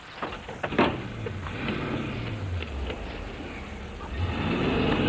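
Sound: car driving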